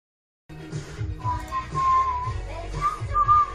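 After a brief silence, someone whistles a short wavering tune of several sustained, sliding notes, clear over a low rumbling background, during a livestream.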